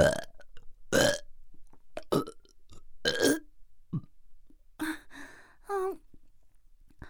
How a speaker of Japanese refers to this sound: ごめんなさい、あんまりにも美味しくてゲップが止まらないの。